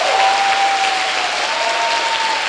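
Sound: audience applauding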